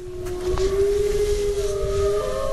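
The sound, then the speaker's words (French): A pack of eight white arctic wolves at an animal park howling: long, sustained mid-pitched howls that hold steady and overlap, with a second higher voice joining later, over a low rumbling background. “Et oui, des loups arctiques. Et avant de les apercevoir, on les entend.”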